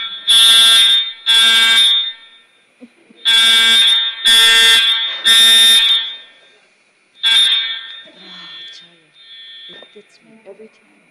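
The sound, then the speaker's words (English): A loud, harsh fire alarm being tested in a courtroom during a hearing sounds in repeated blasts, two then three with short gaps, followed by one more blast before it stops and faint voices and movement remain. “Testing the alarm.”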